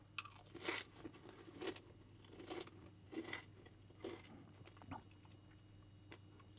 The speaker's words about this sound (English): Wow, that's awesome. I love how crunchy that amaranth gets.